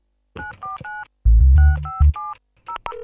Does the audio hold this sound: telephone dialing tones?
yes